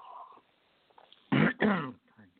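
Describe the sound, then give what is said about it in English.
A man clears his throat twice in quick succession, two loud, raspy bursts after a moment of faint background noise, with no speech. “Clear my throat out.”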